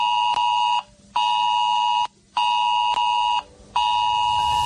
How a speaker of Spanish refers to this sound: Recoñeces este son? É o son do sistema S-Alert. Podes soar no teu móvil se a Xunta de Galicia o activa para que adoptes medidas ante unha alerta ou emerxencia de protección civil na tua zona xeográfica.